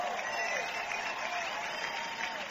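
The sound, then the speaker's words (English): A large crowd of people in Berlin applauds Barack Obama's speech steadily, a dense wash of many hands clapping at once that holds an even, loud level throughout without breaking into individual claps. “And that of course, met with rousing applause from the people of Berlin.”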